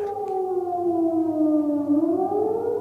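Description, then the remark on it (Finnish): A civil defense air raid siren sounds the general alarm signal for people to take shelter, wailing steadily and loudly, its tone slowly falling in pitch and then beginning to rise again, with no voices over it. “hälytysmerkki. Ihmiset meni pommisuojaan tai sitten oman kerrostalonsa pohjakerrokseen suojaan.”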